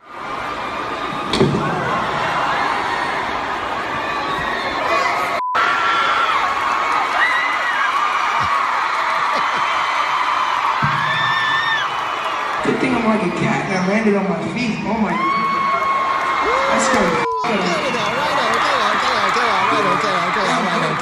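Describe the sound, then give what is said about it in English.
A large crowd of young fans, around 12 years old, screams and shrieks continuously for about twenty seconds after their pop idol disappeared, high-pitched wailing voices layered densely and loudly throughout, with a couple of sharp thuds along the way. “Listen to the screams of agony.”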